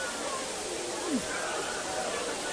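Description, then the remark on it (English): Steady, heavy rain falls on a football field during a game in the third quarter, after an earlier drizzle: a dense, even hiss that holds at a constant level throughout, with a brief falling whistle-like tone partway through. “No, now this is becoming a wet rain. This is, there was a drizzle earlier, but it's coming down pretty good now.”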